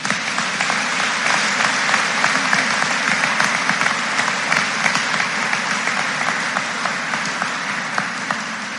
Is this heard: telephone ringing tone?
no